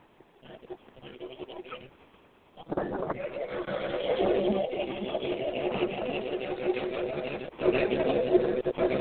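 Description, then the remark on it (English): The engine of the number 112 race car, driven by Chuck Quinton, idles low at first, then roars up loud, holding a rough, sustained rumble with a few surging revs near the end. “In the number 112 car, Chuck Quinton. Coming up shortly.”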